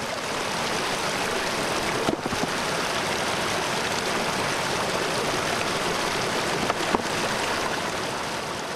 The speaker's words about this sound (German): dass wir das Rauschen vom Bach gehört haben, jede Nacht vor allem. Besonders intensiv im Frühjahr, so wenn die Schneeschmelze ist, dann ist es relativ laut.